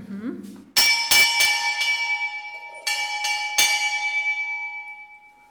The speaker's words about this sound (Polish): Dzwonek wisi od pokoleń, budzi rano braci, przywołuje do kaplicy oraz przywołuje do refektarza na posiłek. I bardzo skutecznie działa, bo widzieliśmy przed chwilą, że tutaj jeden z ojców wyjrzał na korytarz zdziwiony, co to za hałasy